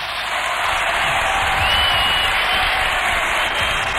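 A large crowd in a bullring (Plaza de Toros) applauds in a dense, steady wash of clapping that holds at an even, fairly loud level for the full few seconds, with faint cheering mixed in.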